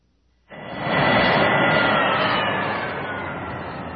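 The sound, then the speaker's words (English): A loud engine roar of Luke's E-wing starfighter, landed near a beach, bursts in abruptly, holds steady as a dense jet-like rumble, then eases slightly as the engines are shut down. No voices. “As soon as Luke shut down the engines, he could hear the wind howling outside.”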